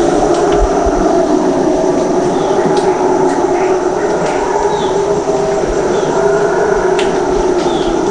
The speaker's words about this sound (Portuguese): Ouvir o estranho som dos macacos bugios.